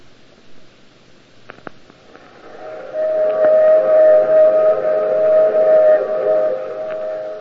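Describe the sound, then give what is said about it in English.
A steam train runs with a low mechanical rumble and a few sharp clacks, then a loud, sustained steam whistle sounds for about three seconds before fading back into the rolling noise. “And even though we were on the train”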